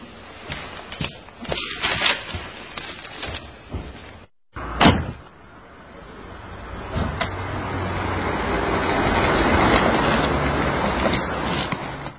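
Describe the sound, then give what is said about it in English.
A door shuts with one solid thud partway through, amid muffled background rumble that gradually swells afterward like passing road traffic. No one speaks. “I'm sorry, but, well, go on, close the door behind you.”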